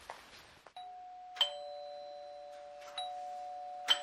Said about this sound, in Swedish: Jag ringer två signaler på dörren